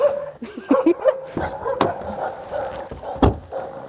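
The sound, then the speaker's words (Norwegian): Several dogs bark and yip in irregular bursts at a small farm in Norway, with sharp loud barks standing out among softer whimpering and yelping in between. “Her er det hunder. Er det deres? Det er rart ikke de bjeffa. Det gjør det.”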